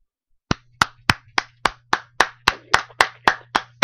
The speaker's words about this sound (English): I actually started applauding the minute you finished the poem.